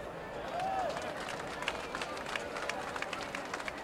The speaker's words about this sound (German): Warum klatschst du da?